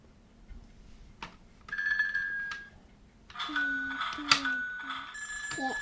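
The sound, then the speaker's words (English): A telephone rings in two bursts, a trilling electronic ring that starts, pauses briefly, then resumes more loudly, with a faint voice and household noise in the background. “Is someone on the phone for you?”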